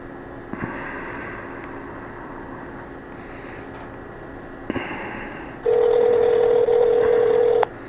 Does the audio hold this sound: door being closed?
no